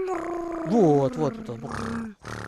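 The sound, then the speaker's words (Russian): A person imitates a cat's purr with a voiced, rumbling throat sound that wavers in pitch and breaks into a rough, pulsing buzz for a couple of seconds. “А кошачьи голосовые связки, они так вибрируют, что возникает звук мурлыкающий. Как вот, сможешь издать звук такой?”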